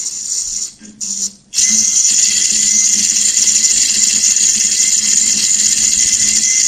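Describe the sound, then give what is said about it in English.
A daisy wheel printer hammers out characters in a loud, rapid, high-pitched mechanical clatter, pausing briefly twice at the start before chattering on steadily without a break. “Okay, here's our Daisy Wheel printer.”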